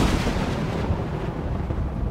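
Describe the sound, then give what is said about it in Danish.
A loud thunder crash from a lightning strike not far away, after a deep rumbling: a sharp, bright crack at the start that settles into a heavy, continuous low rumble for about two seconds, with no voices. “Og du i det fjerne kan høre en dyb rumlen, inden lynet med et brag slår ned.”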